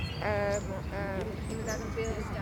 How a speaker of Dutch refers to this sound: Het geluid van vogels, van wind in de bomen, van pratende mensen, van een watertje op de achtergrond en weinig verkeersgeluiden.